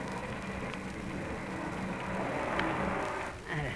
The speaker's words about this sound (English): Now, if we hop on our kilocycles, we can catch up with Fibber and Molly McGee. As they chug along... No, they're just pulling into a filling station.